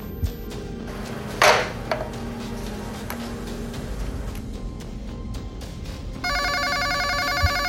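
An office telephone starts ringing near the end, a bright trilling ring that continues steadily, following quiet with a brief clatter earlier on. No one speaks.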